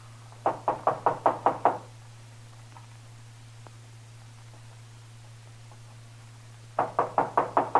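Two bursts of brisk knocking on Paris's door by Marshal Dillon, six or seven sharp raps each, separated by a long quiet pause, with a low steady hum running underneath throughout.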